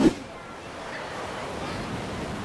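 Ocean surf washes steadily onto a beach at Florianópolis, a continuous rushing hiss that swells slightly toward the end, after a brief soft knock at the very start.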